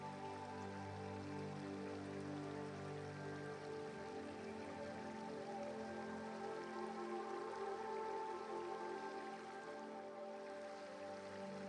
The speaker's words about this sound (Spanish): Escuchando el sonido de fondo del río,